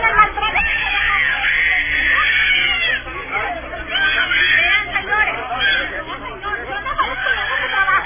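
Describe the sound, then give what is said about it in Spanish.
Shrill children's screams and cries rise over a chaotic crowd of agitated voices as a soldier holds a young man on the ground and his mother defends him, continuous and frantic for several seconds, with a muffled quality. “Ahí manda el video, crueldad, unos niños gritando ahí.”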